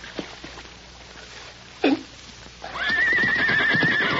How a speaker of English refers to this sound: Maybe I can rope that horse and bring him out in the open.